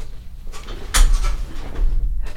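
A recliner chair snaps back upright with one sharp, close mechanical clunk, preceded and followed by softer creaks and shuffling rustles. No one speaks.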